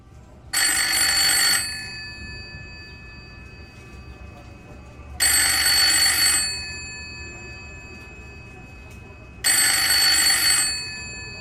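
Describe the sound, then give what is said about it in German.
An old-style telephone bell rings three times in Ingeborg Bachmann's flat on the Via Giulia late on the evening of 16 October, each ring a loud metallic trill lasting about a second, separated by pauses of a few seconds, with faint hiss in between. “Da läutet am späten Abend des 16. Oktober das Telefon.”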